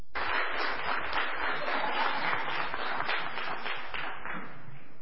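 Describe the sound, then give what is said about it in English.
A church audience applauds a guest preacher before the sermon, a steady, dense wash of many hands clapping at an even level throughout, thinning slightly toward the end. “Why are you applauding before the sermon?”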